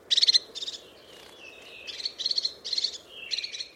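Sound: crested tit calls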